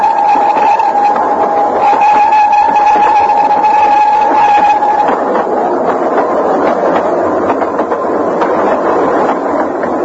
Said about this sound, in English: A rapid train passed below me and was skimming away over the landscape.